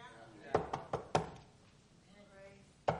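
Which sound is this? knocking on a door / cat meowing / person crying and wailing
knocking on a door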